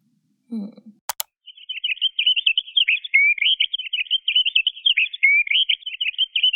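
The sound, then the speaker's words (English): After a brief click, a finch calls in a continuous run of bright, rapid chirps and twitters, clear with nothing else behind it. “That was the call of a finch.”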